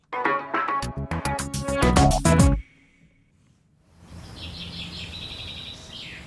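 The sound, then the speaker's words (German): A brief musical jingle ends, followed by outdoor spring ambience where birds whistle and chirp in quick repeated bursts over a soft steady background hiss. “Schön, wenn es wieder länger hell ist, langsam Frühling wird und von außen die Vögel pfeifen.”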